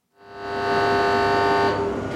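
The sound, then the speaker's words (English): An alarm inside the smokestack of a German coal plant sounds a loud, steady tone continuously for about two seconds, buzzy and rich in harmonics, over a low industrial rumble, signaling a shipment of coal moving along a series of belts toward the furnace. No one speaks. “An alarm sounds inside a smokestack, signaling a shipment of coal making its way along a series of belts towards its destination, the furnace.”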